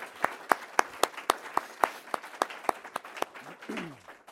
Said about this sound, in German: Ganz, ganz herzlichen Glückwunsch. Und genau, wir können mal klatschen.